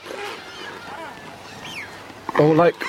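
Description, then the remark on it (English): A shag gives one loud, harsh, rasping, guttural croak near the end, after a stretch of quieter background with faint warbling calls. “It sounds like the bird, the shag.”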